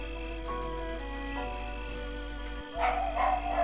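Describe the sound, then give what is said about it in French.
A dog barks a few times near the end, short muffled bursts, over a steady low hum and sustained tonal background sounds. “Oui, c'est bien un aboiement d'un chien.”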